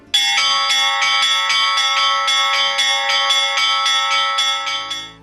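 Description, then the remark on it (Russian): Church bells peal continuously in a bright, overlapping ring, strikes repeating in a steady rhythm with dense metallic overtones, loud, with no voices, fading slightly at the end; the church's bells rung every morning at exactly ten o'clock. “И теперь каждое утро ровно в 10 часов раздается колокольный звон и распахиваются двери храма.”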